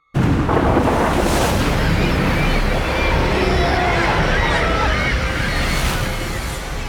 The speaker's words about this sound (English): Waves crashed against the coast of the peninsula known as the Pluming Cape. The stormy seas and the rumbling in the sky formed a horrible, dissonant cacophony all around Izumo.